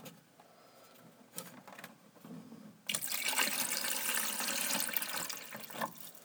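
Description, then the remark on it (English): After a few seconds of quiet clinking and handling, water pours steadily and loudly into the 48-ounce water reservoir of a coffee maker, a splashy rush lasting about three seconds before tapering off. “All right, pour some water into this.”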